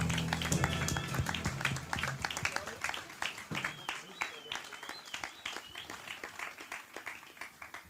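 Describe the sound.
An audience applauds a performer with a dense burst of clapping that gradually thins into scattered, uneven claps. A brief tonal voice or sound briefly overlaps the opening moments.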